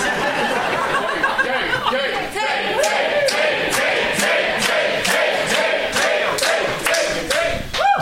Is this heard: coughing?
no